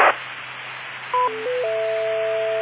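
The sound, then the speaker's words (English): Hissy HF radio static with a low steady hum, then a short run of stepped electronic tones ending in a sustained two-tone signal, an aircraft HF radio phone patch being connected over the air. No voices. “That's their version of a phone patch, I guess.”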